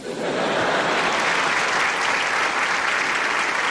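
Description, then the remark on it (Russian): A crowd applauds steadily, a dense wash of clapping that swells in within the first moment and holds at a loud, even level throughout, with no voices standing out. “Аплодисменты, знак согласия.”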